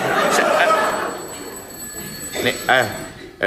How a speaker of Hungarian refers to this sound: Szól a telefon, nem? Igen, pillanat.